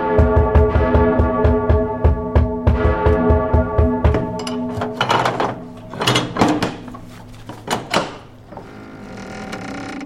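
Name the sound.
bell being rung repeatedly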